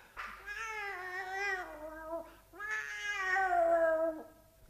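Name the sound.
cat purring and meowing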